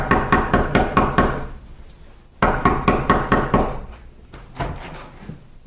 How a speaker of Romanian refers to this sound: Domnule, cum puteți să bateți așa într-o ușă?